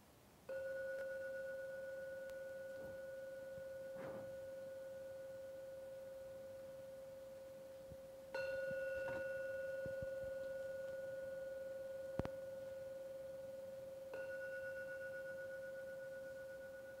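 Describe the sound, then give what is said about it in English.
A gong is struck three times during a guided meditation, several seconds apart. Each strike gives a clear, steady, mid-pitched ringing tone that hums on and slowly fades. No one speaks. “I am now going to ring the gong 3 times.”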